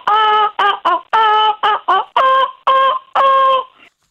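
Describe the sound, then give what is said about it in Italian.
A person hums a short tune in squawky, gull-like notes, about eight loud, nasal tones in a quick, bouncing rhythm, with no other sounds. “Intono un motivetto come fossi un gabbiano.”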